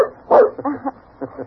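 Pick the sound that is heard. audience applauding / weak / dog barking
dog barking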